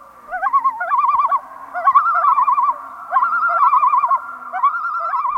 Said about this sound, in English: Maybe you heard common loons calling as you vacationed on a northern lake.